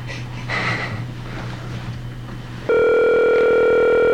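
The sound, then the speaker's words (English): A phone call rings out with no answer: a few seconds of muffled breathy rustling, then a loud, steady electronic line tone cuts in abruptly and holds to the end. “Maybe Disney called them and said, don't answer the phone because you might give out some secrets inadvertently.”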